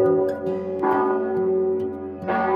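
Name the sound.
church bell ringing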